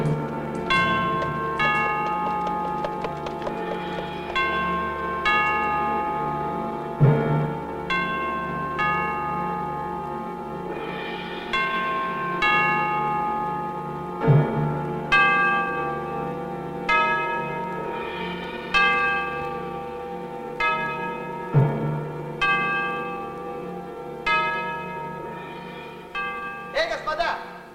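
Church bells ring continuously in a steady peal, strike after strike overlapping into a rich, lingering clang, fairly loud, with several heavier accented strokes standing out every few seconds.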